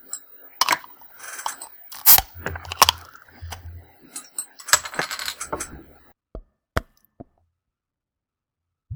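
The cap of a Laughing Dog American IPA beer bottle is pried off with sharp metallic clicks and clinks, followed by a short burst of pouring and fizzing as the beer foams up with lots of head, then a few isolated clicks before silence. No one speaks.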